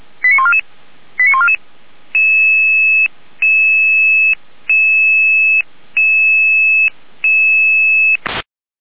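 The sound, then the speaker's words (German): Two quick rising sequences of electronic tones, then an alarm tone beeping steadily, five long loud beeps with short gaps, ending in an abrupt click. No one speaks. “Hier noch, Alarm.”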